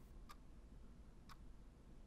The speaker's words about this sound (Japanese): 静けさに包まれたトレーナー室には、秒針の音と彼のかすかな寝息しか聞こえません。